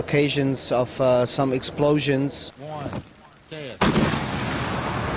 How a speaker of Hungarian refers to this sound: Ilyen izraeli gyártmányú kukákat szerelnek majd fel a prágai metróban. Ahogy a gyártócég felvételein is látható, a ládák még egy viszonylag nagy erejű robbanásnak is ellenállnak.